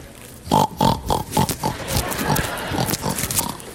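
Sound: pig grunting and oinking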